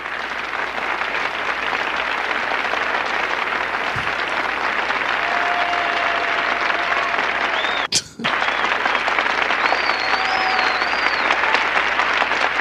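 Dense, sustained applause fills the whole stretch at a steady loud level, with faint whistles riding over it and one brief break in the clapping near the middle.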